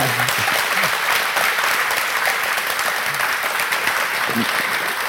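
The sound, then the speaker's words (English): Sustained audience applause for two video game composers fills the whole stretch, a dense, steady wash of many hands clapping, with a few faint voices buried underneath. “can we get a round of applause for David Wise and Grant Kirko?”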